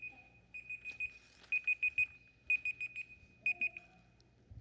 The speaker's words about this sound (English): I set a timer so I'd be done on my sermon. And then I walked away from it, you know.